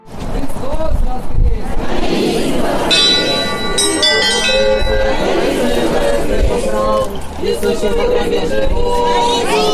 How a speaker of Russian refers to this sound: Свято-Успенский храм встречал меня пасхальным колокольным звоном, шел крестный ход после праздничной божественной литургии.